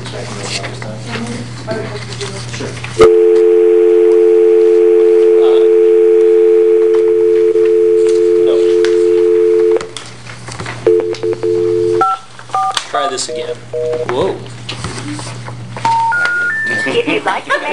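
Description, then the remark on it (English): A steady telephone dial tone hums for several seconds, then a quick run of touch-tone dialing beeps follows as someone at a council meeting dials in a caller from the Rodeo Association, with faint room murmur and a low electrical hum underneath. “but I'm going to dial him in and we're going to hear from him on the Lapine Rodeo funding request.”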